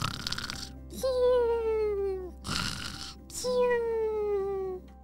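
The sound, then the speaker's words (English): A voice imitates butterflies snoring: two long, wheezy, whistling exhales that slide downward in pitch, each preceded by a rough, breathy inhale, repeated in a slow rhythm. “Have you ever heard a butterfly snore?”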